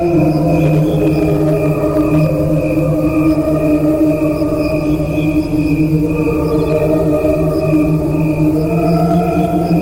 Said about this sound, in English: cricket